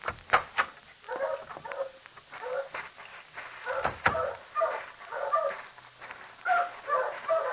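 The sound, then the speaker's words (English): Several dogs bark, yip and whimper at once in a kennel where dogs are boarded and sold, their overlapping calls forming a busy, continuous chorus with sharp barks breaking through the steady whining. “Through this door. It opens directly onto the kennels.”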